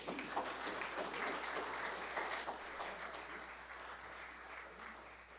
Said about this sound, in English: All right, I think we should give them a hand of applause.